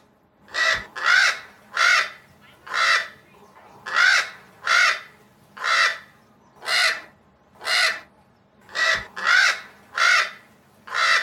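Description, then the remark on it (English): A crow caws repeatedly, about a dozen harsh, raspy calls in a steady, slightly uneven rhythm, loud with brief pauses between them and no other sounds. “You're telling me that you speak crow?”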